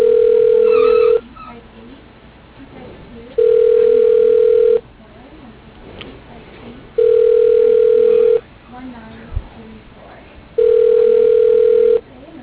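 Ringback tone of an outgoing phone call to Gary's paving service: four loud, steady mid-pitched buzzing rings, each lasting over a second and evenly spaced, with faint muffled noise in the gaps, before the voicemail answers.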